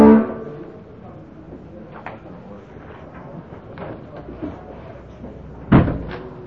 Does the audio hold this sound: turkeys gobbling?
no